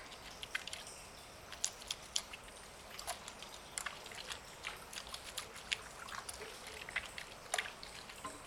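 Quiet wet swishing and squelching as shampoo is whisked into a lather for washing hair, with soft irregular bubbly clicks and crackles repeating steadily for several seconds, no talking.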